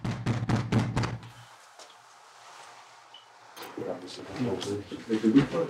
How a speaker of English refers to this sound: knocked on the door for themselves.